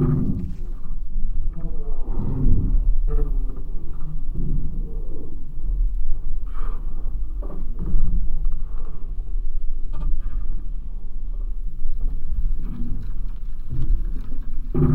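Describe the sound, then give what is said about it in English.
The Halfpenny Bridge over the Liffey creaks and groans as people cross it on foot, heard through special microphones: a steady low rumble with drawn-out groaning tones and scattered sharp cracks, fairly loud throughout, with no voices. “If we listen with special microphones, we can hear all the grunts and groans and cracks and creaks.”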